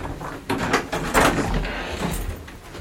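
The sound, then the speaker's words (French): A door being handled: a few knocks and a scraping slide around the middle, then a softer thud, with room noise throughout and no talking. “C'est une porte qui va, une porte qui va à la chambre ou une porte Peu importe.”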